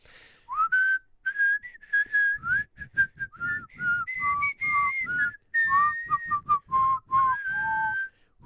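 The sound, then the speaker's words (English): A person whistles a tuneful melody, the pure pitched notes sliding and stepping through a song-like phrase, with soft breathy puffs and background rustle underneath. “But I mean, there are some good songs with whistling in.”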